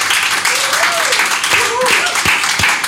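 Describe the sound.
Sustained audience applause: a dense, crackling wash of many hands clapping at steady loudness for about three seconds, with faint voices or whistle-like tones rising through it.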